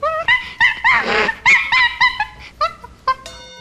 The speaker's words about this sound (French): La bonne réponse est singe.